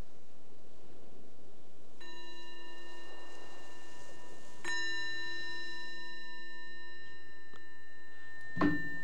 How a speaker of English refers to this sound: Or maybe you're grateful for the sound of the bell because the meditation is over.